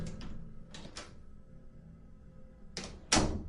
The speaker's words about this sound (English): As usual, I was on my phone while using the bathroom, and the bathroom door opens.